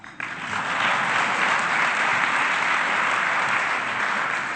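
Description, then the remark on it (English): An audience at a City of Goleta meeting breaks into steady applause after a report on the new zoning ordinance, a dense wash of clapping that starts abruptly and holds at an even, fairly loud level for several seconds. “You can clap.”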